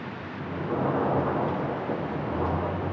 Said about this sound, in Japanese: 4月8日19時過ぎ、仙台市で突然春の雷が鳴り出しました。